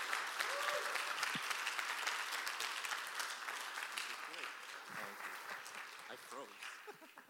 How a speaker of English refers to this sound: And so can we give a big round of applause and welcome Dr.